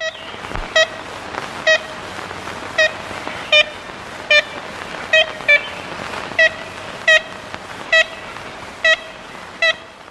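A 1935 recording of nasal, horn-like toots of an ivory-billed woodpecker, about a dozen short notes at an uneven, unhurried pace, standing out clearly over a steady hiss of background noise.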